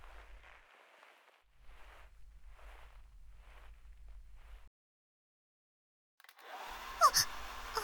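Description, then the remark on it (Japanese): Soft rhythmic rubbing strokes of a towel drying someone's hair, then a brief silence before a hair dryer switches on and blows loudly on their head with a steady whooshing roar and a faint whine. “ドライヤーというのですか？まるで火を吹く竜みたいですね。”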